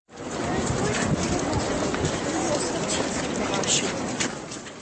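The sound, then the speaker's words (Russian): Dense, steady shuffle of many footsteps as a funeral procession of over 10,000 people walks slowly and almost silently behind a former president's coffin across Charles Bridge on an overcast day; a continuous fairly loud texture with occasional sharper scuffs and a faint murmur of voices underneath. “В пасмурный день люди шли за гробом экс-президента почти молча, но звук шагов несколько раз заглушал звон ключей и аплодисменты”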